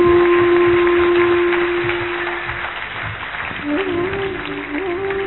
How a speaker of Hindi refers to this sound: Madam has been appointed by the Maharashtra medical council to observe this particular conference. आप सब जोर से ताली बजाएं।